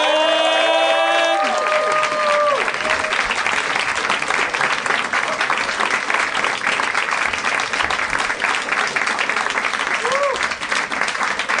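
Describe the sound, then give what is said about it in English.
Steady, dense audience applause as a performer is brought up onstage fills the whole stretch, loud and unbroken, with a few whoops and cheers rising above the clapping early on and again near the end. “That was lovely applause, and it made me feel 8 times more self-estimatious.”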